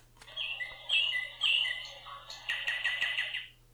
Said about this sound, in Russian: И соловей запел так чудесно, что на глазах у императора появились слезы.